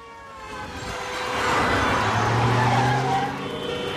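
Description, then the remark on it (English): A car roars past, its tires squealing in a sustained screech as it swerves into oncoming traffic and swings around a corner on the wrong side of the road. The noise swells to a peak midway, then eases slightly. No one speaks. “Paul steers his car into oncoming traffic and swings around the corner on the wrong side of the road.”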